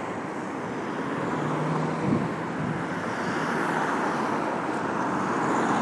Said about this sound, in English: Yeah, sorry about all the traffic noise. Like R2UK, I don't like doing audio boos in front of an audience, so that's why I tend to come outside. And it is quite noisy around here because we're quite close to the motorway.